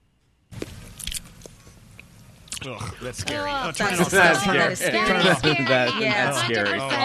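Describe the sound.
Loud chewing of a person eating, with wet smacking and crunching bites, continuing throughout; partway through, humming, voice-like mouth sounds rise over the eating and grow louder.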